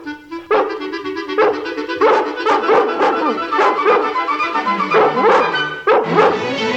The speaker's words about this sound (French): Soudain, un chien aboie derrière la porte. Rempli d'espoir, Nanny se précipite.